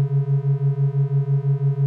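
A deep, steady conch shell horn tone holds for about two seconds, with a gentle rhythmic wavering in its loudness, echoing through a rainforest, sounding alone with no voices.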